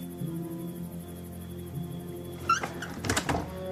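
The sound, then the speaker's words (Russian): Dovzhik knocking on Nora's door: a single rap, then a quick cluster of two or three knocks a moment later, over a low steady hum with no one speaking. “Довжик стучит в дверь Норы.”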